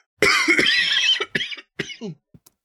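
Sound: cough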